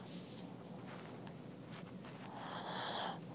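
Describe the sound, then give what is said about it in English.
A dog named Tank, resting, breathes heavily and slowly, with soft airy huffs and a louder breathy exhale near the end, over a faint background hiss and no talking. “Oh, he's just breathing. He's not snoring.”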